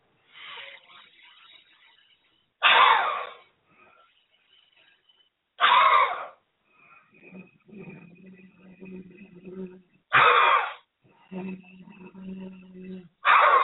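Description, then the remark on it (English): Four sharp, forceful exhales burst out at fairly even intervals during a deep breathing exercise, each preceded by a quieter, very deep breath drawn in through the nose, with faint murmuring in between. “where you're breathing in very, very deep and in your nose. And then when you breathe out, make it a faster breath, so it's kind of pushing it all out at once.”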